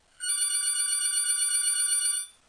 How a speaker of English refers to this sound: And I don't know which phone is ringing. Okay. Took care of that. I'm sure it was a spam phone call, if there's such a thing.